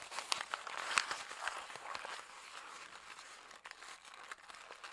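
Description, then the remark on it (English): Thick paper being wadded up to imitate a crackling fire, producing a dense, irregular stream of crisp crackles and snaps, steady for several seconds with no voices. “Okay, it sounds, to my ear, it sounds like paper being wadded up. Let's see if we can't make it sound like fire.”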